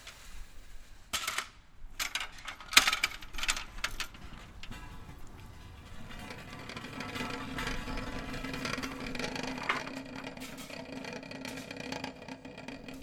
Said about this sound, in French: Elle s'approche, traînant d'une main la chaise.